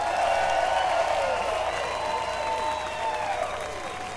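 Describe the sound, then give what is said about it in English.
An audience applauds steadily for fiddle player Bobby Hicks from North Carolina as he is introduced, a dense wash of clapping that holds throughout with some crowd voices mixed in, easing slightly toward the end. “That's all right, keep applauding.”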